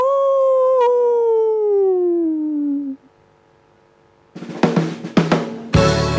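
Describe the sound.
A long, loud wolf howl slides slowly downward for about three seconds, then after a brief silence a rock band crashes in with loud, driving bursts of guitar and drums.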